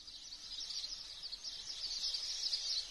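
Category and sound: bird, birds chirping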